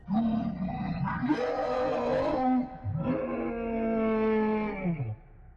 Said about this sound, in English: Whatever the reason, that's when I heard the howling, though I'm not entirely sure if that's what I'd call it, to be honest.